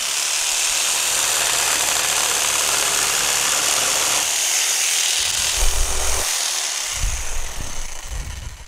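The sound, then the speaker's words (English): A plugged-in electric saber saw runs loud for the whole stretch, a steady high-pitched buzzing whine, with its tone shifting partway through and some low rumbling knocks near the end. “Now, the drill and the saw and this saber saw, they all do different things. But without the power, they all do the same thing.”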